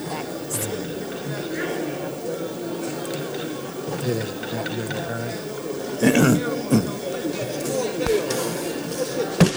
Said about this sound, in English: Doorkeepers, close the doors and keep them closed.